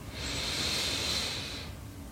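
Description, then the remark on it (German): One long, steady inhale through the nose, a soft airy hiss that swells and holds for about a second and a half before fading, alone with no talking; the third deep breath taken during a meditation. “Wir nehmen den dritten tiefen Atemzug und atmen ein.”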